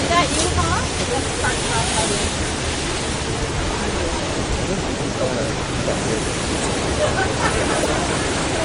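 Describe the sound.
Steady, heavy, cold rain pours down outdoors on people waiting outside, a dense, even hiss that holds at the same loudness throughout, with a faint murmur of voices mixed into the wash.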